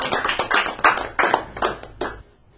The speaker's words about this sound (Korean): 예, 예, 오늘 박수 쳐드립시다.